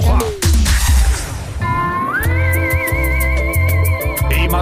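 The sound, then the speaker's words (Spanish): Someone whistles a sustained, wavering tune while driving a quiet electric car, the tune sliding upward and holding with a gentle vibrato, loud, over a steady rhythmic music bed with a thumping low beat. “Mientras, va silbando, relajado, todo es perfecto.”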